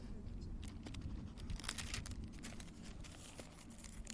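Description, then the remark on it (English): Quiet rustling and crinkling of papers being handled and clamped with a small paper clip, with scattered small crackles over a few seconds and no talking. “I'm going to clamp this in here. My friend Jim Payette, he gave me a little paper clip here, which I'm going to attempt to use”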